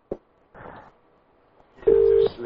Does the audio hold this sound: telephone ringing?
yes